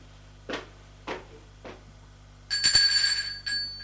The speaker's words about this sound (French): Il va sonner à la porte de l'appartement.